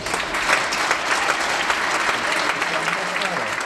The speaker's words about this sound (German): Da also applaudiert das Publikum. Die waren damit zufrieden, die Zuschauerinnen und Zuschauer.